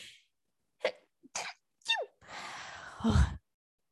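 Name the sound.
sneeze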